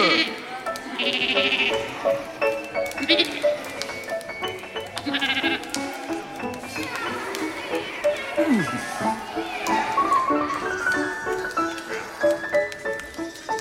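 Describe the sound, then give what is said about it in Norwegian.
Several people imitate farm animals during a scene change in a stage play, mostly wavering sheep-like bleats overlapping one another in a lively chorus, continuous and fairly loud with a few lower moos mixed in. “Kan dere lage noen sånne gårdslyder mens vi skifter til bukkene bruse?”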